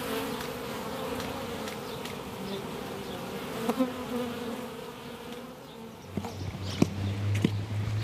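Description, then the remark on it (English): A steady, dense buzzing of many bees around a hive hums throughout, with occasional sharper clicks and taps near the end, no voices present. “Because bees are very therapeutic. It's very calming.”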